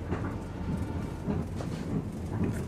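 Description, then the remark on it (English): A train car rumbles steadily along the rails, a deep continuous roar with faint rhythmic swells, moderately loud, with no voices. “In this scene, he ignores all the empty seats in a train car and plants himself next to the one sleeping passenger he can't resist waking up.”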